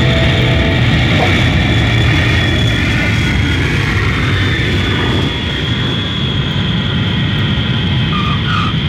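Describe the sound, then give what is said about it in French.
Steady, loud engine roar of an airplane descending toward Tel Aviv, a dense continuous rumble with a faint high whine on top, holding level for the whole stretch with no voices. “Nous sommes le 1er janvier et mon avion descend sur Tel Aviv.”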